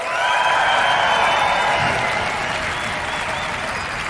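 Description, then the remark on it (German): A large audience at 36C3 gives a requested "10-point applause", clapping loudly and steadily in a dense wash with some cheering mixed in. It holds strong for about four seconds with only a slight easing. “Und deswegen möchte ich jetzt einmal hören, lieber 36C3, wie klingt ein 10-Punkte-Applaus?”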